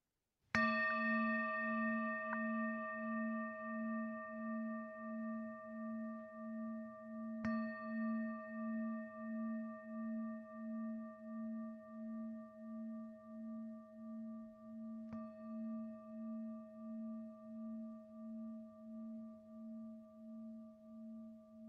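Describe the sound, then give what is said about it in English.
A meditation bell is struck three times, about seven seconds apart, during a guided meditation, each ring sustaining a rich, wavering hum that slowly fades. No voices. “And as you hear the sound of the bell, trusting that, trusting all these parts that hold us together, and then coming back at the end of the bell.”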